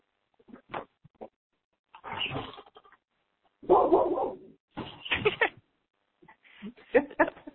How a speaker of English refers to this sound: The dog. It's a nice bark.